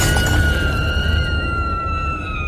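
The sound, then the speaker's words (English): A loud crash as a rock hurtles through window glass and smashes into a webcam, with a heavy impact and bright ringing tones that linger and slowly fade over a couple of seconds. “But then out of nowhere, a rock came hurtling through the glass and smashed right into the webcam.”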